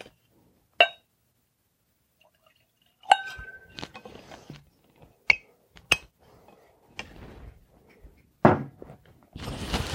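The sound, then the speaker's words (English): Glass clinks and a few dull thunks, spaced irregularly, as a bottle is handled and whiskey is poured into a glass, with a brief rushing pour at the end. No one speaks. “I got to pour something else.”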